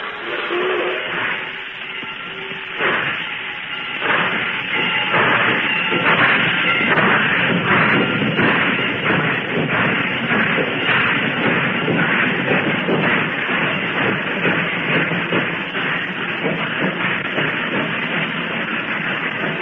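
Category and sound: vehicle, train pulling out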